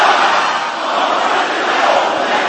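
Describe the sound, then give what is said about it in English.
A large audience shouts together loudly and continuously, a dense roar of many voices sustained at steady volume for a few seconds without any single voice standing out. “Is that how loud you can shout this word?”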